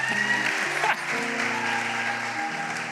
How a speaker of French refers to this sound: Elle peut partir sous vos acclamations, s'il vous plaît.